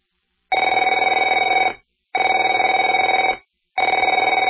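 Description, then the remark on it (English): A telephone rings in three bursts, each a loud trilling ring about a second and a quarter long with short silent gaps between. No one speaks. “Afraid to answer it?”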